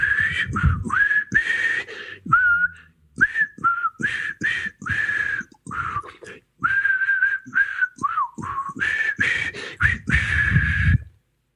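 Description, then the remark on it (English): Someone whistles a wandering melody, fairly loud, in short phrases broken by brief pauses, the pitch sliding and wavering, with some breathy noise underneath. “I would have to say, and I'd like you to debate this with me now, is it possible to actually whistle out of tune?”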